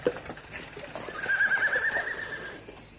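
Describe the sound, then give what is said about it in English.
A horse on a road gives a single loud, drawn-out whinny that rises and holds for a couple of seconds before fading, with faint hoof clatter and outdoor noise around it. “Block the road, stop the horse.”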